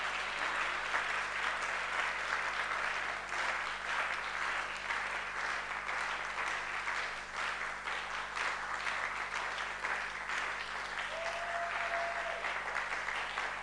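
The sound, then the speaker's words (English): An audience claps together in sustained, dense applause, a steady roar of many hands at even loudness throughout, with a brief thin tone briefly rising above the clapping near the end. “Oh, I thought the clap would be an octave or two higher.”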